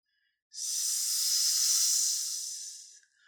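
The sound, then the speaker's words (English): A single long, steady snake hiss, fairly loud, holding for about two and a half seconds before fading out, with nothing else around it. “I am a snake.”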